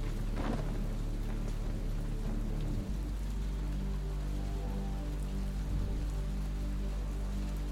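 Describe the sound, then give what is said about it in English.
Steady, heavy rain pours down with a deep, continuous rumble of thunder rolling underneath throughout, a dense storm wash with no voices present. “The storm assault in Lyle Goodman's house was a good one for sure. Full of wrath, wind, and rain.”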